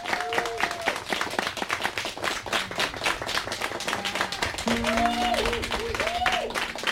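Sustained audience applause fills the whole stretch, dense and steady hand clapping from a sizable crowd, with indistinct voices and cheers rising through it near the end.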